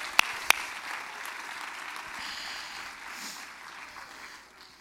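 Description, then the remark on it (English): A church audience claps together in praise to God in dense, steady applause, with two sharp, loud claps standing out at the start before the clapping settles into an even wash that slowly fades. “Everybody clap your hands this morning if you receive the word of the Lord.”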